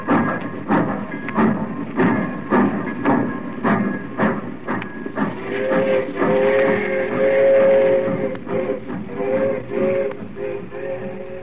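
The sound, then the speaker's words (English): A train pulls away, its heavy rhythmic chugging repeating steadily before a long, shrill whistle-like tone rises over the rumble and fades into continued clattering motion. “That train went, I busted out and cried like a kid.”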